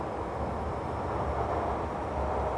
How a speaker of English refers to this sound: Welcome aboard the Hokushin Kyoko Line. This train is bound for Seishin Chuo by way of Shin Kobe and Sannomiya.